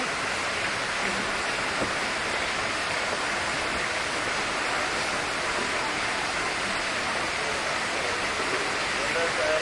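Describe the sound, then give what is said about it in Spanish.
Steady, continuous rushing of river water flowing around a boat on the river, a dense even wash of flowing sound that holds at the same level for the whole stretch without pause. “Yo estoy grabando, no sé si usted puede narrar algo de lo que estamos viendo pasando por, en medio que vamos por el río.”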